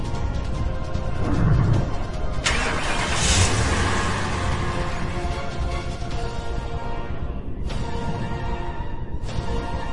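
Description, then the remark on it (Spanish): A car engine starts up and runs steadily, its loud rumbling drone swelling briefly as it revs, with a dense mechanical hum continuing throughout and no voices. “Luego, subió a su auto.”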